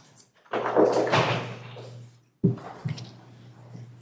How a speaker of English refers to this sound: you mind just shutting the door for us, please? Thank you.